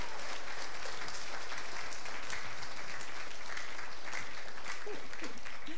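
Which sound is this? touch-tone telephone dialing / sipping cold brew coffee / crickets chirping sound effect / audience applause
audience applause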